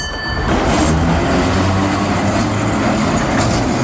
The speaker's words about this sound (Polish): zabytkowe tramwaje będą jeździły na świątecznej, uruchamianej co roku linii W z Woli na Pragę przez Śródmieście